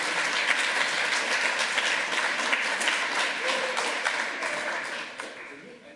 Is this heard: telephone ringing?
no